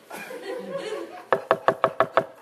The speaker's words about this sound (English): Stop by their house and we'll give it all to you. Just knock on the door.